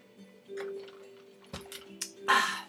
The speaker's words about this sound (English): Sip of some iced coffee. All right, we're back at it.